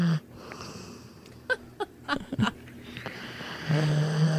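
A female dog snoring loudly with harsh, raspy wheezes in short irregular bursts, then settling into a long, low, rumbling snore at the end, sounding like a grown man. No one talks.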